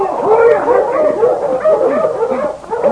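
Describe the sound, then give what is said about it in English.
A pack of husky dogs barks and yips excitedly all at once, loud, with overlapping high whines and short yelps running continuously throughout. “Oh, you husky!”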